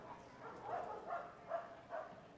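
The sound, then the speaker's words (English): A dog barks in the concourse of a baseball stadium during a game, about four short, evenly spaced yaps that sound faint and a little muffled over a low background hum. “You're a little vicious down there in the concourse, a little noise. On nights like these, we miss Bob the baseball dog.”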